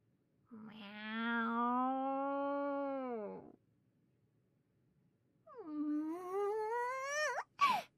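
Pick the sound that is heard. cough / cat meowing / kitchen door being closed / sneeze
cat meowing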